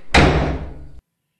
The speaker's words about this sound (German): Dann schlurfe ich wieder auf meine Zelle zu. Kurz bevor ich die schwere Tür ins Schloss fallen lasse, betätige ich den Lichtschalter vor der Tür und begebe mich wieder in die allumfassende, gütige Dunkelheit.